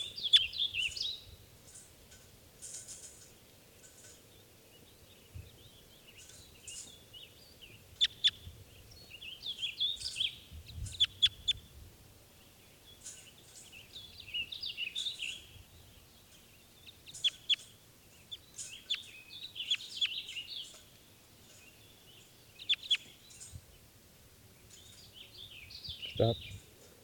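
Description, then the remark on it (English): A lone male bird, left behind after the other birds have taken off, calls again and again in bursts of short, high chirps and trills, set against a steady low rumble, with no voices. “Other birds have taken off, and there's a single lone male here.”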